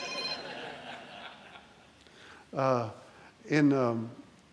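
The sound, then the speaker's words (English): A phone rings in the audience, its electronic tone held steady for a couple of seconds, then fades as a man's voice speaks two short phrases. “excuse me, everybody turn your phones off.”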